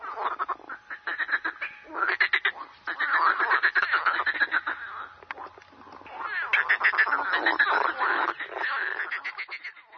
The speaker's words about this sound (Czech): Ja sam se žabe poželjela. Asocira me na detinjstvo.